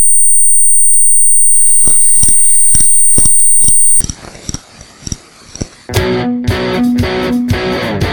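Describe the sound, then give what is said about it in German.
A thin, high-pitched whistling tone imitating tinnitus holds steady for about four seconds, joined midway by soft rhythmic thumps; louder, busier music then takes over. “Termi Tinnitus, das pfeift.”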